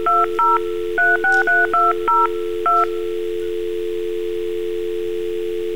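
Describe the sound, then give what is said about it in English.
Eight quick touch-tone dialing beeps, each a short two-pitch chirp, tapped out in an uneven rhythm over a steady telephone dial tone that keeps humming alone afterward. No voices. “And then we would dial, and we'd dial these numbers.”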